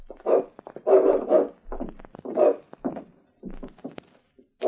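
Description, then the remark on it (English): A dog shut in a back room barks repeatedly in short, energetic bursts behind a door, sounding muffled, with a few thumps and a whimpering note between barks. “What about that dog in the back room”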